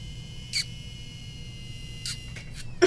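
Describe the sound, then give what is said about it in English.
A water bottle gives off a handful of short, high, thin squeals while someone drinks from it, spaced irregularly with quiet gaps and a low steady hum underneath. No talking. “Before we start, my water bottle sounds like someone's screaming when I drink it, and I want to see if the mic will pick it up.”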